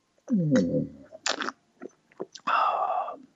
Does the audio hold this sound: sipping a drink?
yes